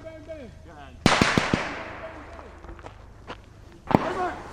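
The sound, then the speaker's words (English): A powerful IED explosion booms and rumbles away, followed by scattered sharp cracks and a second IED blast near the end, going off behind a Marine team, with faint voices in the background. “That last explosion is a second IED going off behind the team.”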